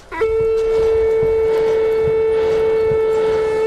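A blacksmith at a building site blows a cattle horn to signal the end of the workday. The long, steady blast holds one low, buzzy pitch for over three seconds after a brief rising onset, loud and unbroken, with no voices.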